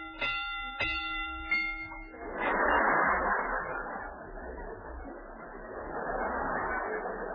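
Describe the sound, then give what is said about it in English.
A bell dings three or four times in quick succession to rate a mystery film at 3.5 bells, each bright ringing tone overlapping the last, then gives way to a sustained wash of broad, noisy sound. “This mystery gets 3.5 bells.”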